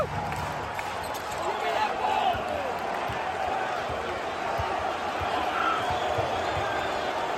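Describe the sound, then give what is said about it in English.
A large crowd roars, screams and cheers continuously, a dense wall of voices at a steady, loud level for the whole stretch, with occasional thumps underneath. “Can we put a mini clip in here of sure. the crowd going nuts?”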